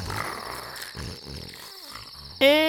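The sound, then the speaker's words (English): Raspy, rumbling snoring of sleeping parents, a mother and father, repeats in low bursts, then ends with a sudden loud, buzzing, nasal snore. No one speaks. “Is that their snoring?”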